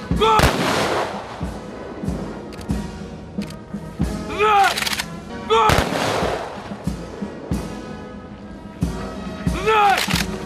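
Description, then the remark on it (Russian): Three loud ceremonial rifle salute volleys crack out about five seconds apart at a memorial after a flower-laying ceremony, each a sharp simultaneous burst with a short echoing tail, and a shouted command rings out before the volleys. “По окончании церемонии возложения цветов были даны 3 оружейных залпа салюта в память о павших земляках,”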